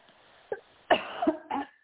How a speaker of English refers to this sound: Excuse me for a moment while I clear my throat.